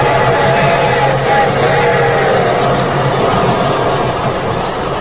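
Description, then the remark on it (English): A loud, steady roar of the Golden Streak Streamliner, a fast passenger train from L.A. to Chicago, rushing past at 90, a dense continuous rumble with rattling and hiss that barely varies over several seconds. “It sounds like a train.”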